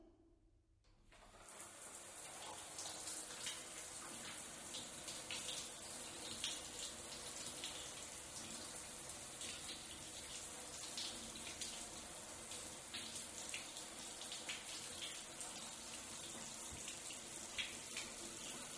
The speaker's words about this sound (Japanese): じゃあ最後にシャワーで泡を流しちゃおうね。